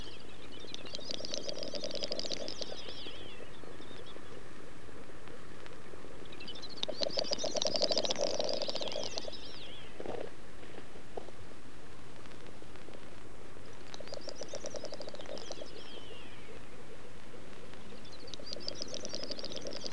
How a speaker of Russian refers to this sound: Ночь. Совсем рядом такуют дупеля. Распустив хвосты, маленькие кулички горделиво бегают по таковищу. Одни дерутся, другие, стоя на месте, нашептывают в темноту свою странную песню.